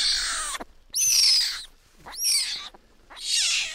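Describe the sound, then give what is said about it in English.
A young male wild animal, small enough to fit into two hands and with oversized paws, growls in four harsh, raspy bursts, each a hissing rasp lasting about half a second with short pauses between, fairly loud and with no talking. “You can hear him growling.”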